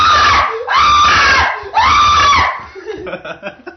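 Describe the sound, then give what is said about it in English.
A woman screams in terror three times, each a loud, piercing, sustained shriek, followed by a short stretch of softer, choppy vocal sounds. “Sort of pretty, except for the fact that her eyes were wide with terror and she was screaming.”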